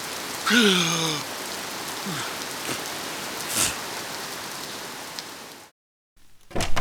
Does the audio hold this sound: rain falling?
yes